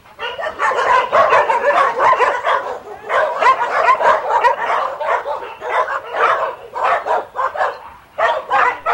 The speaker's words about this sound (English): Well, that, of course, is dogs. It wouldn't be cat.